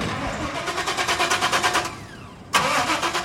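A pickup truck loaded with junk, including tires, a bag of clothes and metal, cranks its engine with a steady, rhythmic churning for a couple of seconds, pauses briefly, then abruptly catches and roars into a loud running idle.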